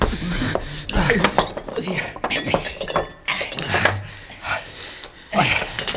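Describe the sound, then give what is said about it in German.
Glasses clink and clatter repeatedly in a hurried jumble as they are hidden under cots, bright high clinks mixed with dull knocks and rustling, while hushed voices and quick breaths sound underneath. “Wir müssen die Gläser unter den Pritschen verstecken.”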